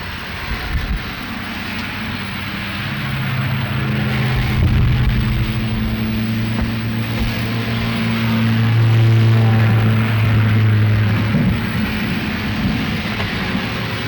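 Steady, broad hiss of rain falling without pause, joined by a low droning hum that swells in the middle and fades again. No one speaks.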